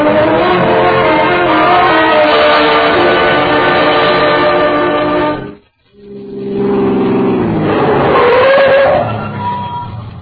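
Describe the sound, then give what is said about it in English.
A loud car engine roars steadily at high revs, cuts out for a brief moment, then surges back with rising pitch as it accelerates hard, the car being driven fast toward a border customs post early in the morning. “Run down and get the car started.”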